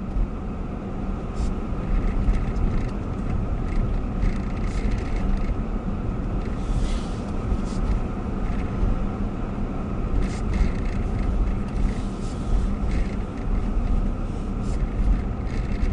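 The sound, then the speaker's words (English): A car drives along a rough road in Tonopah that is broken by freezing and under repair, its steady low engine and tire rumble broken by scattered rattles and jolts as it bounces over bumps. The noise is continuous, with no talking. “The road is bouncing us around here.”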